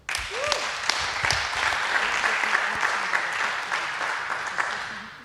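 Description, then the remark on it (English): A room full of people applauding a speaker introduced to talk about fuzzing of cryptographic protocols, a dense wash of clapping that stays loud and even throughout, with a brief voice-like sound near the start. “So a big applause for him.”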